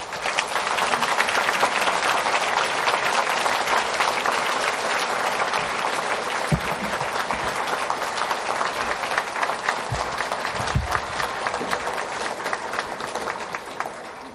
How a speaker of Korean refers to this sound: 우리 김영국 목사님 나오실 때 박수로 환영하도록 하겠습니다.